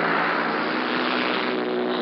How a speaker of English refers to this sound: The sky now is full of the noise of these paratroop planes as they circle the aerodrome before they take their course.